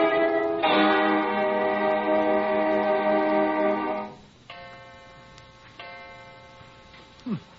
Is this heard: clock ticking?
yes